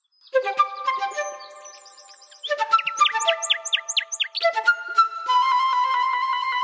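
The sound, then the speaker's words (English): A single bird sings a rich, varied song on a guided walk after all the other birds went quiet, mixing sustained whistled notes with rapid trills and quick descending chirps, with no other sounds around it. “the people on the guided walks, and just seeing how incredibly moved they were by listening to this incredible bird song that struck up when all the other birds went quiet.”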